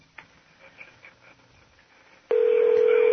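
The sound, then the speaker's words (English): A phone call being placed to a contest winner: a few soft clicks and faint taps, then a loud, steady telephone ringing tone suddenly comes on near the end and holds. No one speaks. “It's ringing.”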